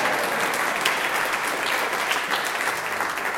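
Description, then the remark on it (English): A crowd applauding steadily for a man born in Palo Alto, a dense wash of many hands clapping at once at a constant, fairly loud level with no voices standing out. “He's a native son, born in Palo Alto, and he's got applause for that.”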